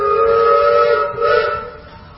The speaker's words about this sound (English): This whistle? One long, one short.